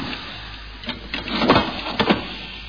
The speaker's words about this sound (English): Okay, now, we just locked the door up.